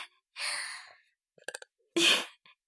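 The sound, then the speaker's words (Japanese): A short, abrupt burp bursts out near the end, following a breathy exhale and a few soft clicks, after water was gulped down in one go on a full stomach. It's moderately loud, with no talking. “ゲップ出ちゃいそう。”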